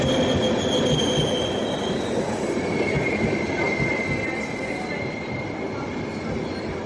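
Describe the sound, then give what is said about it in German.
An express train bound for Vienna rolls into a station, a steady dense rumble of wheels and carriages with high, drawn-out brake squeals sliding over it as it slows. No one speaks. “Der Schnellzug nach Wien fährt gerade ein, als Benjamin mit der Rolltreppe zum Bahnsteig hinauffährt.”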